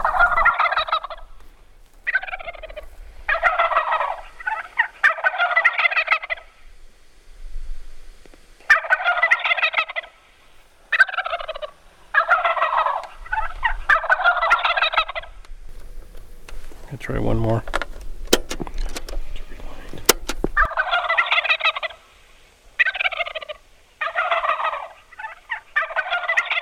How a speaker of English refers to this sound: And this being November and Thanksgiving approaching, we thought we'd come up here and see if we could call a wild turkey.